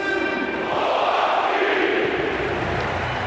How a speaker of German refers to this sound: Auch Tim Borowski bekommt 20 Jahre nach dem Double einen großen Jubel im Weserstadion